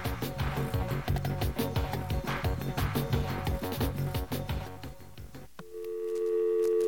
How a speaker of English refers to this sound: Yes, there's our dial tone. And that means we're going to be exploring the phone network in just a couple of seconds.